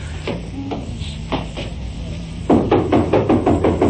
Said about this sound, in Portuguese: Eu vou bater na porta. Deve ser aqui.